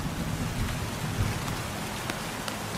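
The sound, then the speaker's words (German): Steady rain falls in a dense, even hiss, with scattered drops tapping and a low rumble underneath. No one speaks. “Ein paar Schritte weiter, unter einem großen Farn, dessen Blätter sich im Regen leicht wiegen, öffnet sich eine weitere Tür.”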